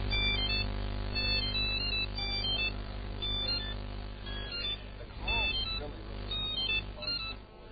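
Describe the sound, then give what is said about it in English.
A Nokia cell phone ringtone plays its bright, electronic melody in repeated bursts throughout, over a steady low rumble with faint, muffled voices in the background. “This is so now we're having the ringtone. Nokia.”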